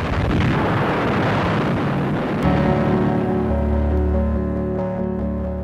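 Old archival AP recording of the Imperial Japanese Navy's air attack on Pearl Harbor, December 7, 1941: a dense, crackling roar of explosions and gunfire, then a sharp burst gives way to a steady, loud droning hum like aircraft engines, with no voices.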